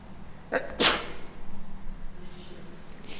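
A single sharp sneeze, with a quick breath drawn in just before the loud burst, followed by quiet background noise and no talking.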